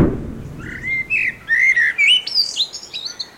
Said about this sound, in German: Das war die Amsel.